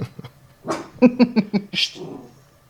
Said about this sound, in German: Jetzt bellt mein Hund.